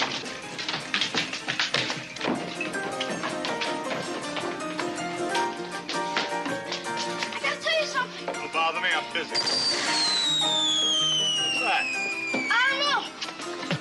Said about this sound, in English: So the fireworks are going off.